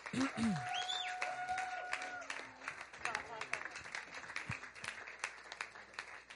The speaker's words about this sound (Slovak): To ešte nechápeme ako žiadnu formálnu rozlúčku, ale dajme mu teraz jeden veľký potlesk a zároveň ho pozveme